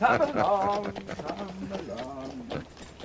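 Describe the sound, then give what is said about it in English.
Horses' hooves clip-clop at an unhurried walking pace as the horses are led to a stable, a steady run of sharp knocks, partly under a voice talking over them. “Come along then, my lovely. We both love a fine horse.”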